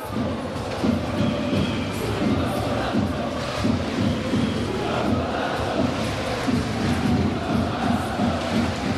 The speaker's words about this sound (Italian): Si fanno sentire i tifosi di Cantù assiepati nella curva ospiti, lo spazio dedicato ai tifosi ospiti.